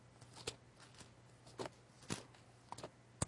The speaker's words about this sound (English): Oh, it's good to hear the pages turning on a Sunday morning.